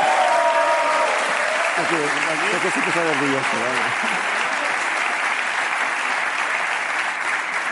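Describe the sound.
Steady, loud audience applause fills the whole stretch, a dense wash of clapping, with a brief spoken or cheering voice rising over it early on.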